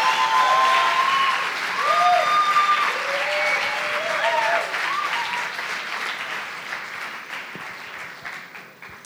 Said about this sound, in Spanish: quiero que reciban con un fuertísimo aplauso a mi mamá, mi jefa, mi pastora, mi asesora de modas.